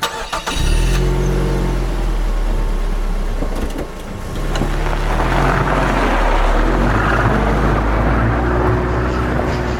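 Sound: car driving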